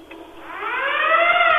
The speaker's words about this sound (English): The hunk alarm, is that when they grab a machine? Yeah. And you have to sound the alarm? Is that what you're talking about? Yeah, the hunk alarm.